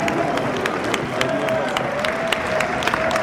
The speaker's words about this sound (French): Qui est-ce qui arrive ? Claude Goasgen, député de Chédien. Il est applaudi.